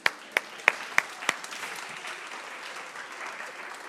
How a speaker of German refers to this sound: Den Applaus habt ihr schon gekriegt. Danke vielmals euch.